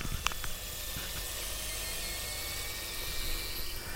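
Food sizzling in an air fryer after its motor stops: a steady, even hiss with faint crackles and a few sharper pops early on, holding at a constant low level with no voices.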